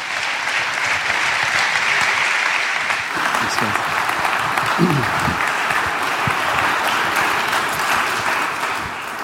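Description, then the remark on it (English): A crowd gives God a hand of applause after a testimony about faith in Jesus, clapping steadily in dense, continuous applause that stays loud and even throughout, with a few faint voices briefly rising underneath. “Let's give God a hand of applause.”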